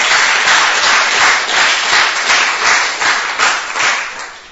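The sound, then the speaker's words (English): A crowd applauds Prahlad steadily, dense overlapping claps forming a loud, sustained wash of sound that swells in gentle pulses and begins to thin out toward the end. “To give Prahlad a big round of applause.”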